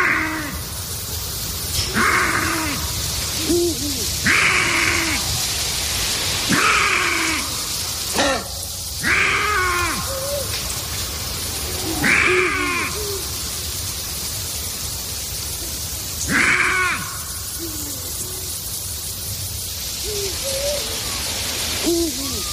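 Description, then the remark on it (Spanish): Lynx in mating season calling repeatedly, with harsh, cat-like yowls about every two to three seconds over a steady hiss of background noise; a female lynx answers from far off. No one speaks. “Y esa es una hembra, una lince, que responde a lo lejos.”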